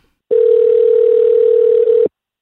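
A single steady telephone ringback tone sounds for about two seconds, a loud, even mid-pitched electronic hum that starts and stops abruptly, with no voices around it.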